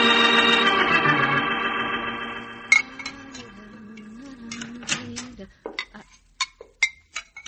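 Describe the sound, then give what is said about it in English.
Dishes and cutlery clatter in a cafe kitchen, a sustained hum fading out before a run of sharp, irregular clinks and knocks as plates and utensils are handled in washing. “keep on washing your dishes.”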